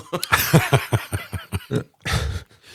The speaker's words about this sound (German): Ich meine, der Rülpser. Ein kurzer Rülpser auch. Ich habe jetzt so, wie er den Mund wieder zugemacht hat. Er war laut und kurz.